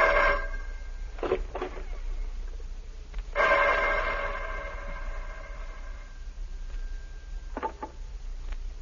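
A telephone rings in a couple of bell-like bursts, the second lasting a few seconds, with clicks and faint handling noises in between and no one talking.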